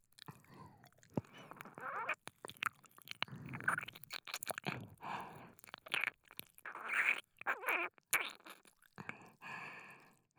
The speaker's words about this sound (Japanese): いい音。私、兄弟いんだけどさ。結構お兄ちゃんと年が慣れててさ。たまにトイレでしこってるとこういう音聞こえてきてドキドキしてたな。